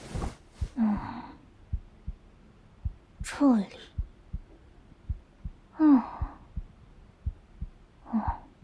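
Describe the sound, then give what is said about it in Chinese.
A steady, muffled heartbeat thumps low in an even rhythm throughout, heard through a stethoscope on a man's chest, while a woman speaks softly and breathes in short bursts over it. “快把头枕到我的腿上来，我来听听哥的心跳正不正常。”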